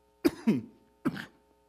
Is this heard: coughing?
yes